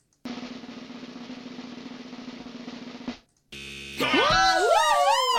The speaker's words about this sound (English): That was a very bittersweet moment. I finally got to press the incorrect buzzer, but I also... lost my soul in the mix.